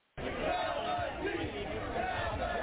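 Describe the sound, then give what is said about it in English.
A large crowd of baseball fans fills the Oakland Coliseum for an A's game, the biggest crowd of the season, on a Tuesday night, with steady, dense murmuring and chatter, a continuous wash of overlapping voices starting abruptly and holding at an even level throughout. “the Coliseum saw its biggest crowd so far this season”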